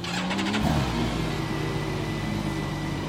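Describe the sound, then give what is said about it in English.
The 6-cylinder BMW motorcycle engine of a Campagna Motors T-Rex three-wheeled car, in neutral, cranks briefly with a rapid starter whir when the start button is pushed, catches, then revs up and settles into a loud, steady idle, with no one speaking. “The only thing left to do is push the little engine start button.”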